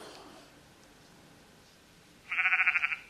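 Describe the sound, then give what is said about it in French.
After a couple of seconds of quiet background, a single short sheep bleat sounds out, wavering and quavering, fairly clear, with no talking around it. “Et voilà notre berger, je crois bien qu'il a entendu quelque chose. Un petit bêlement qui vient d'où? Du fond d'un trou.”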